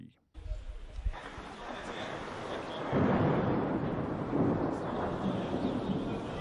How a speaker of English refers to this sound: Faces look up at the Mimar Sinan soccer stadium in Fatih, Istanbul. Thunder and dark clouds threaten to ruin today's match between Somalia and Ghana, but nobody loses hope.